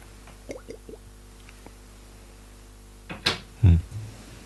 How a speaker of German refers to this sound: Ich habe im Moment ein leichtes Problem mit meiner Feuchtigkeit im Mund, deswegen muss ich mal einen Schluck trinken, damit ich euch hier nicht vollschmatze. Also muss ich eben ein Erfrischungsgetränk zu mir nehmen.